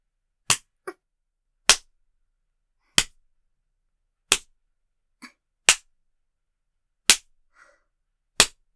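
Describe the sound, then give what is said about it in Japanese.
Seven loud, sharp spanking smacks land at a slow, steady pace about a second apart, with a few fainter, softer slaps in between and silence otherwise. “百叩きじゃ終わりませんからね。”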